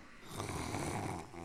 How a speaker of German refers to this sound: Horcht mal, … schnarcht.